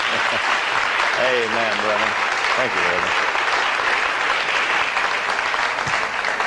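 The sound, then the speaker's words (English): A crowd applauds steadily with dense, continuous hand clapping to welcome a man, while a man's voice speaks briefly over the applause. “Give him a good hand clap for welcome.”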